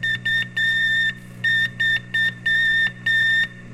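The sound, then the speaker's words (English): Sputnik 2 satellite radio signal: a string of about eight high-pitched electronic beeps of uneven length, switching on and off over a steady low hum and faint static. “This is Sputnik 2.”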